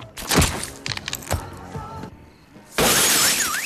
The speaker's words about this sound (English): The pink, glitter-trimmed, star-shaped shades don't exactly go with his tough guy clothing. After a moment, he tosses them to the ground and crushes them underfoot.